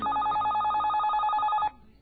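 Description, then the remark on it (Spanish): A telephone rings with a rapid, trilling electronic warble, loud, repeating steadily for over a second before cutting off abruptly, leaving faint background noise. “mi amor, contesta el teléfono.”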